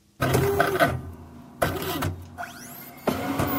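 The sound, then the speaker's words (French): A printer whirs and clatters in three mechanical bursts as pages feed through, with a short rising motor whine between the second and third passes. Fairly loud, with no voices. “T'as une imprimante. Ben oui! T'as deviné ça?”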